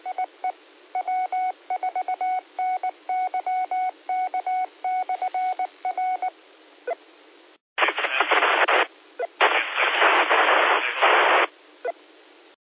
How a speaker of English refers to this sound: Somebody down in the white noise, but you're really, really low on audio, and you weren't holding the repeater up. Try to move around or bump up your power, see if you can get in.